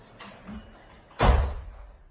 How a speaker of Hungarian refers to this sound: Csap be az ajtót!